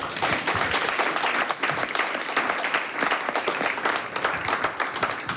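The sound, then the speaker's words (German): An audience applauds steadily as a photographer is welcomed to talk about the new photo book Tres Viajes, a dense wash of many hands clapping at a fairly loud, even level throughout, with no voices standing out. “Einen dicken Applaus für”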